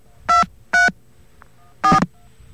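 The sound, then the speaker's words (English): Three touch-tone dialing beeps on a telephone, each a short, steady dual-pitched electronic tone, dialed after a secondary dial tone; the first two come in quick succession, then a pause before the third. No voices are heard. “Okay, I think I have a secondary dial tone there. I don't think that's the same dial tone, so I'm going to dial some numbers.”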